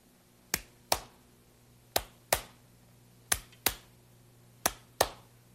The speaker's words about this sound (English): Try clapping.